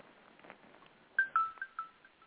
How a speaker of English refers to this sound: What the fuck was that? Oh, that was my phone going off.